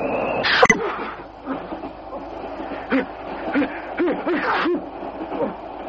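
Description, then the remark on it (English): A fit of sneezing: one sharp, loud explosive sneeze near the start, followed by a string of shorter, breathy sneezes and gasps coming in quick succession. “Most impressive display of sneezing I've witnessed in years.”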